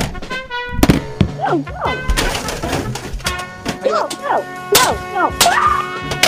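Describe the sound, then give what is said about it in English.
A hammer strikes an Xbox 360 game console several times in loud, irregular thuds and cracks, while people shout and yelp excitedly between and over the blows. “I'm going to go ahead and I'm going to put a hammer to this thing.”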